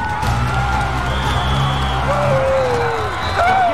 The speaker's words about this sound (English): At the beginning of the Netflix documentary Audible, we see a high school football game that looks pretty typical. Excited crowd, cheering, players mixing it up on the field.